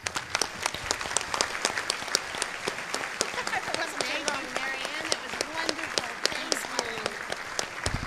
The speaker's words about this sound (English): Let's give her a big round of applause, ladies and gentlemen.